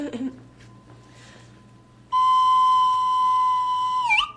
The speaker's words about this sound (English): And play your slide whistle. Oh, yes, yes, I have it here. Ah. This is my practice whistle.